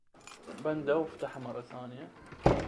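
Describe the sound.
A man speaks, and then a single sharp metallic clack rings out close by as an apartment door is unlocked, loud and brief after the talk.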